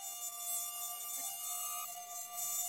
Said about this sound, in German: Willkommen im Mückenparadies. Paradies? Die Hölle ist das hier. Bin ganz zerstochen.